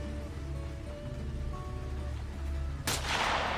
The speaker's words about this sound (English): There is the sound of a distant gunshot, and the wood behind Mother Holly's shoulder splinters, a flash of red as she is grazed but not hit.